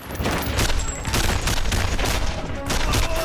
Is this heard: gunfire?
yes